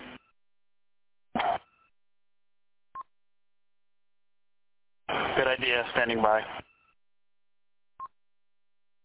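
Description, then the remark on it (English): Brief satellite phone dialing tones beep a couple of times, spaced seconds apart, as a call from Houston is attempted, between short bursts of narrow, radio-like speech over an otherwise silent line. “City Houston for sat phone. We are going to attempt to call you.”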